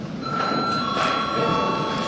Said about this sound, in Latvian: Kolēģi, ir pienācis laiks pārtraukumam. Lūdzu zvanu.